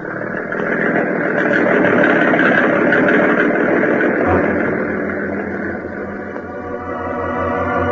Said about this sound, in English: Now, turn that motor over, baby. Let's get out to that island fast.